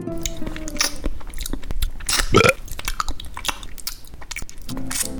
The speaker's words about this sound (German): Schmatzen, rülpsen, schlürfen und reden mit vollem Mund. Das sind absolute Tabus. Zumindest in Deutschland.